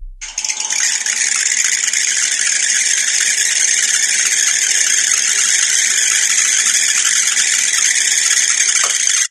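A steady, high-pitched squealing hiss from little squishy balls vigorously bouncing around on a hot pan rather than floating on vapor, loud and continuous with rapid rattling crackle underneath, holding unbroken for about nine seconds before cutting off abruptly.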